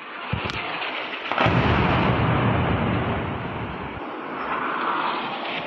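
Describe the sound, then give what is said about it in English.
A sharp crack, then a heavy boom that swells into a long, rolling roar of rumbling, like a blast echoing across open space, with no voices: explosions heard near the city of Muzaffarabad in Pakistan-administered Kashmir just after midnight local time. “Where explosions were heard near the city of Muzaffarabad in Pakistan-administered Kashmir just after midnight local time.”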